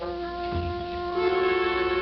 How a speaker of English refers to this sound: The courthouse clock struck the hour. The sounds went across a town that was empty. Emptier than it had ever been before. Over empty streets and empty lots and empty lawns, the sound went. 10, 11, 12.